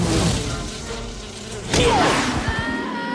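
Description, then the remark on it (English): Insistent insect buzzing fills the scene, attacking wasps droning in flight as a man sprays them, broken midway by a sharp swishing swat before the buzzing carries on amid other busy background noise. “He's wearing safety goggles, which cast an orange haze over his view as he sprays the attacking wasps.”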